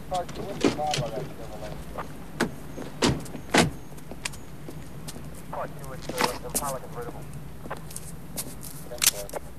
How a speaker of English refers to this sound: They both climb out of the car.